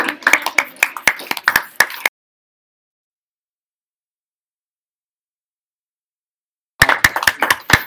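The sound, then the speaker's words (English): Vigorous clapping at a meeting after a vote: rapid, sharp, loud claps in a dense burst for about two seconds, then several seconds of silence before another short flurry of fast clapping. “Vigorous clapping.”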